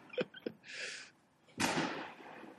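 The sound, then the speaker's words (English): Gunshots: two quick sharp cracks, a brief hissing burst, then a louder bang that trails off in a long, rumbling decay. No voices are heard. “That's a lot of gunshots. It definitely sounds like gunshots.”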